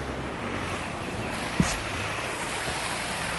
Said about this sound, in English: All of a sudden, here comes the other boat. This is great. I love this.